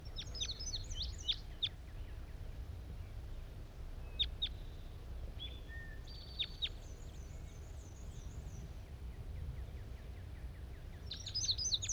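A wild bird, caught and measured that day, calls as it is released at 10 a.m.: bursts of sharp, high-pitched chirps and short trills at the start, middle and end, fairly faint over a steady low outdoor rumble. No one speaks.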